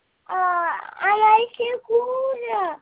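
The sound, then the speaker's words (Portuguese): A baby girl fusses and whimpers in several short, high-pitched, wavering bursts with brief pauses between them, sounding upset but not fully crying. “A neném tá nervosa?”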